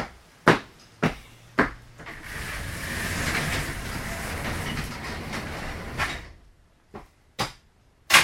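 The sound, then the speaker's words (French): A door is shut after a few sharp clunks and a stretch of loud rushing noise from outside; a solid thud cuts the noise off, followed by quieter clicks of the latch. No one speaks. “Voilà, la porte est fermée.”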